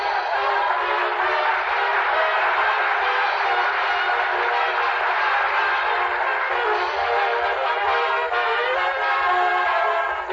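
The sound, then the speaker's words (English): A train pulls out of a railroad yard with its horn blaring in a long, sustained blast over a steady mechanical rumble, loud and continuing unbroken for about ten seconds with no voices. “We'll duck across the tracks in the railroad yard, and when the train pulls out, there we are.”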